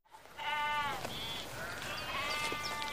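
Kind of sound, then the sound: animal, sheep bleating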